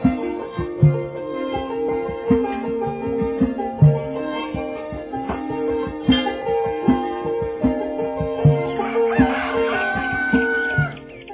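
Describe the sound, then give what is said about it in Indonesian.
A rooster crows repeatedly amid clucking fowl, with bird chirps scattered through the background; the calls come in a steady, rhythmic pattern, in the morning at a forest hermitage on the slopes of Mount Merbabu. “Tengah heningnya pagi, diseling kokok ayam jantan dan kicauan burung-burung, bersyukurlah seluruh alam di sekitar padepokan hutan lereng Merbabu.”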